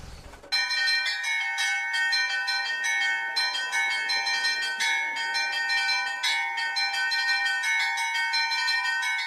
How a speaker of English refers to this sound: The largest of the Rostov bells weighs 32,000 kilograms, and the sound of its chimes can be heard for 20 kilometers.